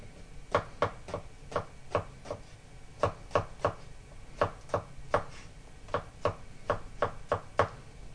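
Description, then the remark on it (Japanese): A knife cuts chicken into small bite-size pieces on a cutting board in a steady series of about eighteen sharp, knocking taps at a quick, slightly uneven pace. The taps are moderately quiet, and no one speaks. “続けて鶏肉を切ります。”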